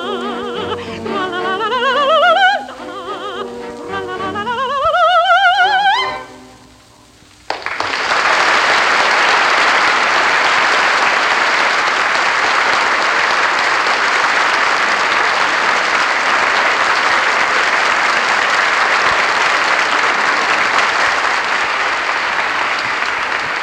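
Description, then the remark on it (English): The soprano Risa Stevens finishes the Segadilla from Bizet's Carmen on a held, vibrato-laden high note; after a brief pause, an audience bursts into loud, steady applause that continues unbroken for over fifteen seconds. “The applause is for Miss Risa Stevens, who sang the Segadilla from Bizet's Carmen.”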